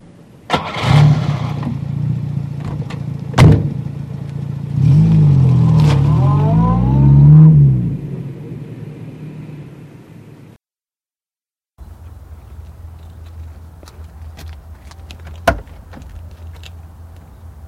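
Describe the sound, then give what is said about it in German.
A car engine cranks to life, rumbles, then revs with rising pitch as the car pulls away. After a short silence, a steady engine hum continues, broken by one sharp click. “Alles klar, wir sitzen schon im Auto.”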